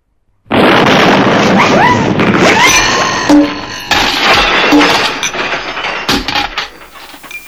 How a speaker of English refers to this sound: Oh, that was a close one. Did you catch that explosion, Mr. B? Oh, yeah, it really cleared up my sinuses.